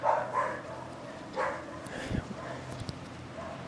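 A dog barks a few times in short, sharp bursts spaced unevenly, with a low rumbling background and a couple of softer yips near the end.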